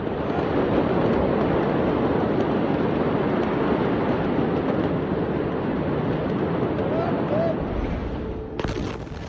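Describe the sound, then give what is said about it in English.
A loud, continuous jet-like roar rumbles steadily for several seconds, then a sudden harsh blast bursts in at the very end, like the onset of a large explosion. “One of the things behind this claim is the almost jet-like roar that could be heard in the moments before the explosion.”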